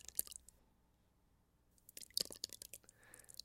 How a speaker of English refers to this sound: And then I made some paper mache glue, and I stuck my hands into it like this.